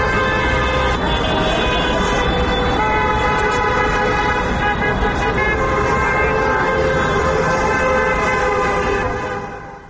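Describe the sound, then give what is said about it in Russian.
Many car horns blare continuously and overlap in a sustained, loud chorus, with steady traffic rumble underneath: drivers honking in support of people gathered on Yakub Kolas Square during a protest action. “У 20 годинов у розных кутках площади Якуба Коласа зазвенели телефоны, але особливую активность проявили автомобилисты, якія летали сигналями тех, кто собрался на площади.”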